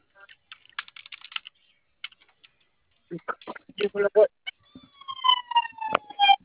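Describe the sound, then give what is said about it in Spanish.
Light rapid clicks like typing, then voices talking, and near the end a loud police-type siren wail from an arriving guard patrol vehicle sweeps in over the chatter, steady and tonal. “Ya llegó la tía, ¿va? Una patrulla, güey, pero no es una patrulla.”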